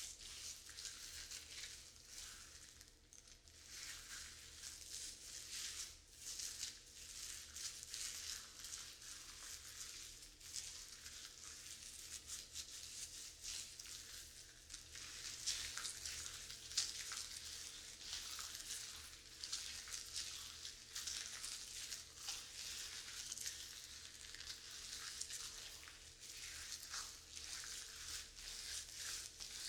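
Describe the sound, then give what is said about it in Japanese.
Continuous wet, crackling scrubbing of fingers working through foamy, lathered hair, a dense bright fizz with soft squelches that rises and falls in uneven rhythm, with no talking. “毛が指に絡まってきてわしゃわしゃ言ってる。泡をつけるともっとそれを実感できるような音が。”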